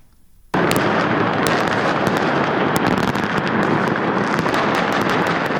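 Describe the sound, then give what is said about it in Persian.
New Year fireworks over Umayyad Square in central Damascus, Syria, at the moment 2025 began: after a brief quiet start, they burst in a dense, continuous barrage of loud cracks and booms, with sharp pops piercing a steady roar of overlapping explosions for several seconds. “آتشبازی در میدان اموی در مرکز دمشق در لحظه تحویل سال 2025، شادی سوری‌ها در اولین تحویل سال نو پس از سقوط رژیم اسد نمونه ای از امیدواری‌هایی بود که مردم سراسر جهان برای سال جدید داشتند.”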